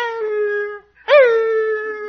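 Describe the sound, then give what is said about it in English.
A person's voice mimics a retriever puppy howling: a long, steady howl, a brief pause, then a second howl that swoops up sharply and settles into a sustained wail, fairly loud. “Well, every time I started to leave, that little puppy went...”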